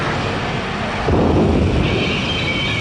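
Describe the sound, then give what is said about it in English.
A loud, sudden crack at about one second bursts into a sustained rumbling roar that stays strong, with a bright hissing layer joining toward the end. No voices are heard. “Crawl away from the lightning.”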